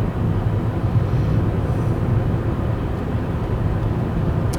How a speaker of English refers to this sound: Just want to report this. Yes, this semi-truck is an obstruction right now. So I'm going to see if I can't get around it.